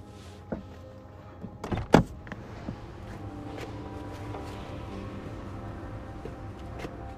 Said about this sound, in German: Er öffnet die Tür und steigt aus.